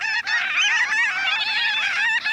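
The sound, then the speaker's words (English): A large flock of gull-sized, tawny brown birds with cinnamon underwings calls overhead above the tide flats of a coastal bay on an April day, a dense, continuous chorus of overlapping, nasal, honking cries, loud, with no one speaking. “But wait, what's that startling sound overhead?”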